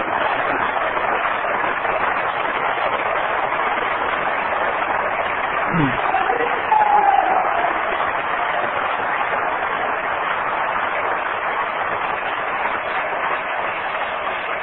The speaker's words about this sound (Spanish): A Dios sean los aplausos, porque Dios no comparte su gloria con ningún músico, con ningún predicador y con ningún siervo de Dios. A Él solamente sea la gloria. Un aplauso a Jesucristo, nada más a Él.